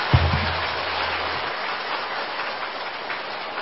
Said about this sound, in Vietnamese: Trong năm qua, ban in ấn ứng dụng Phật pháp vào đời đã thực hiện được rất nhiều công tác Phật sự. Đề nghị đạo tràng chúng ta hãy cho một tràng vỗ tay thật dài và thật lớn để tán thán công đức này.